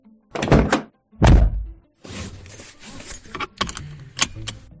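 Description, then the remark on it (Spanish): Two heavy, muffled thunks of a car door shutting at 7 in the morning on a cloudy day with a few raindrops falling, followed by a few seconds of rustling, small clicks and rattles as the seatbelt is put on, with no voices. “Puerta cerrada, cinturón puesto, la radio, por supuesto, siempre encendida.”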